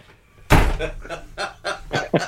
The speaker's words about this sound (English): Maybe I'll just let me close my door.